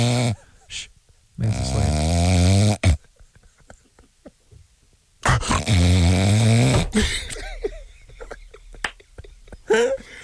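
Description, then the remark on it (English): A voice mimics loud snoring: two long, rasping snores a few seconds apart, each a throaty rumbling drone, with brief clicks and breathy noises in the quieter gaps. “I'm sorry, did I fall asleep?”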